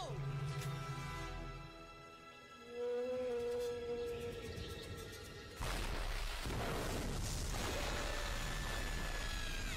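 Long, deep moaning whale calls with rich harmonics and a slow rising glide, loud, then giving way to a sudden roaring rush of water.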